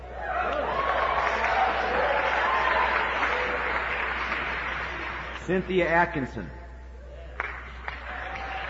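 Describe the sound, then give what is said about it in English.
An audience claps steadily in a dense, sustained burst of applause as names of students with high grades are read out. The applause slowly fades as a voice calls out over it, followed by a few scattered claps. “Let's just hold our applause, okay?”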